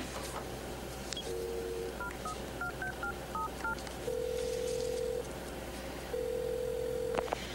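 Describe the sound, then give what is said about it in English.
A woman dials a telephone: a quick series of short two-tone keypad beeps, followed by long steady ringback tones with a pause between them, over a low background hum. “Then she straightens up, composes herself, and grabs the phone.”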